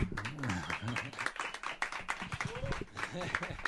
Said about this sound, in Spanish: Y además ahora estamos volviendo a emitir para toda Barcelona, la cual cosa se merece un aplauso.